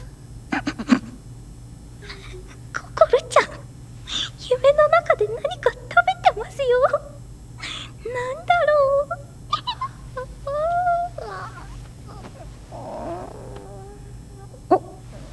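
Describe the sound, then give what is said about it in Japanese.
A small animal named Yuki yawns, letting out several squeaky, whiny stretches with rising and falling pitch, set against a steady low hum, in a classroom where futons are laid out for sleeping. “ゆきちゃん、あくびの音、あざした。”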